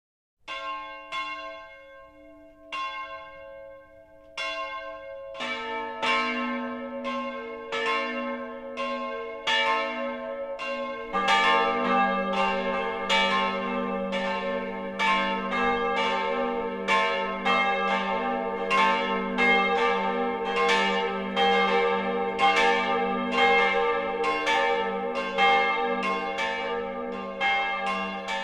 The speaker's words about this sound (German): Es ist 12 Uhr. Das Mittagsläuten kommt heute von der evangelischen Kirche St. Helena im mittelfränkischen Großensee am Eingang zur Fränkischen Schweiz.